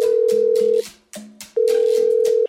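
A telephone ringback tone sounds twice during a call to the village of Marija Dobje in the municipality of Šentjur, Slovenia: a steady, fairly loud electronic beep held for nearly a second, a short pause, then another long beep, with faint rhythmic clicking underneath.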